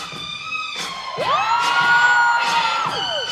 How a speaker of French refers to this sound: Deux minutes après, j'ai toutes mes copines qui se sont mises à crier dans le public. Ça a été vraiment le moment le plus marquant dans mon solo, quoi.